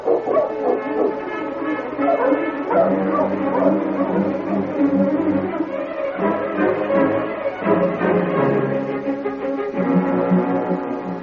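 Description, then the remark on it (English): Sergeant Preston's sled dog team, led by King, barks and yips excitedly as it sets off along a snow-covered trail, their overlapping calls dense, continuous and fairly loud, with occasional whines mixed in. “Get the dogs up, King.”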